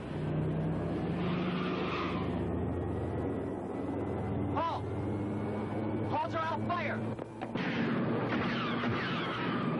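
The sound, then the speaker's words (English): A heavy bus engine rumbles loudly and steadily throughout, with a few sharp clanks and squealing scrapes in the middle as the bus pushes through the main gate, and faint muffled voices underneath. “Somebody got through the main gate in a bus.”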